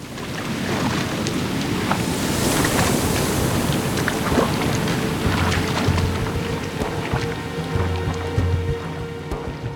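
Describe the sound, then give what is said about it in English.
Continuous sloshing sea water laps around a small, rickety rowboat at sea, with the Athenian coast visible only when the waves dip low. It is a dense, steady wash with scattered splashes and drips, unchanging in loudness, with no voices. “Daedalus slumped in his rickety rowboat and looked out at the sea behind him.”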